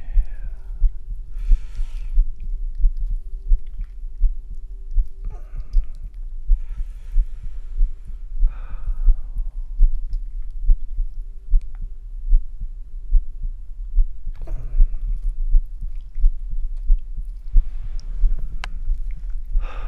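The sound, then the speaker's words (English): An amplified human heartbeat, picked up by a stethoscope microphone on a shaved chest, thumps steadily and deep throughout, booming, with a low hum beneath and occasional soft breathy rustles drifting in and out. No one speaks. “I'm kind of nervous because I'm listening to my heartbeat”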